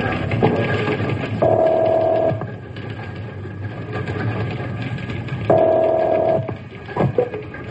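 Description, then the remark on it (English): A telephone being dialed as an insurance broker phones a client, with a few soft clicks followed by two long, steady buzzing tones spaced several seconds apart over a low background hum, no voices. “I'd better call him on the phone.”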